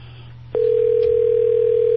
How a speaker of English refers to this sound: And we are we're ringing her. We'll see if we can catch up with her. But she may not be home yet, and she also may be busy.